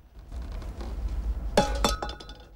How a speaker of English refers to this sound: He looks sheepishly at the men after kicking a can on the floor, then carefully reaches for the door handle and, after a final nod to the men, pulls the door slowly open.